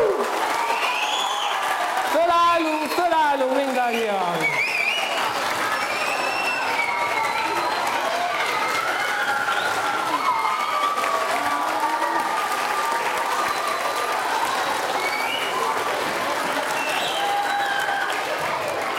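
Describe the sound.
Sustained, loud applause from a large audience at Széchenyi István University welcoming the university's vice-rector, who is to lead the results announcement: steady and dense, with a man's voice calling out over the clapping near the start and faint crowd voices mixed in.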